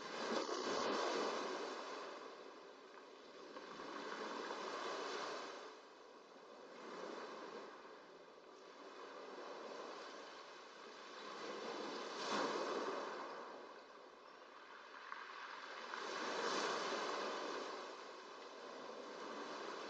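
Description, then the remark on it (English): Ocean waves wash steadily onto the shore in slow, rolling surges that swell and recede every few seconds, a continuous broad hiss of surf with no voices. “You become aware that gradually, naturally, the movement of your breath, the rhythm of your breathing synchronizes with that of the waves.”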